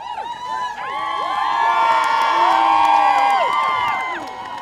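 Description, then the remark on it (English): A crowd at the finish of a sled dog race in Whitehorse cheers loudly for a Yukon musher arriving; many voices whoop and shout together in high, sliding cries that swell over a few seconds, hold steady, then ease slightly at the end. “If anything, cheers for the Yukoner were even louder than they were for the race winner.”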